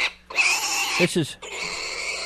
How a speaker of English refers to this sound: This is from our pig sound effects section, and I never see pigs making that sound like that. Whoa. They're not just sticking a tape recorder in the pig pen here. They're doing something, see? That's not a natural, normal sound.